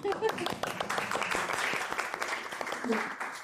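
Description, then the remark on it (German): Steady applause from a live audience at a Muslim culture week event, many hands clapping densely for a few seconds, with a few voices faintly audible underneath. “Vielen herzlichen Dank für die muslimische Kulturwoche, für die Einladung und ein Applaus von uns an euch, dass ihr gekommen seid.”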